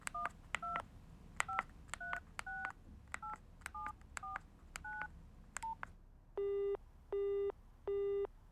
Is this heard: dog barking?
no